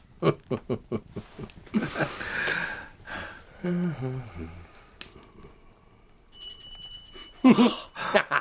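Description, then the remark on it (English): A doorbell rings briefly with a bright, high ringing tone after a stretch of speech in a Sherlock Holmes drama. Voices talk before it, and another voice resumes right after the ring. “Waiting for the dramatic ring at the doorbell.”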